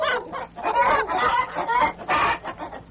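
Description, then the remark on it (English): Hens cluck and squawk in agitated alarm as someone goes after them, a dense, overlapping flurry of sharp, rapid calls that rises in bursts, loud, with no one talking. “Oh, good gracious, the hens! Someone after my hen.”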